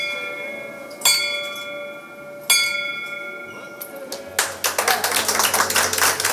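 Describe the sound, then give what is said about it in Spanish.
A bell in a hospital in Marbella, rung when a patient has overcome cancer and is discharged, is struck two or three times, each clear ring lingering and fading, before a burst of lively applause and cheering breaks out and carries on loudly to the end. “Una campana que sonara cada vez que un paciente superara el cáncer y recibiera el alta.”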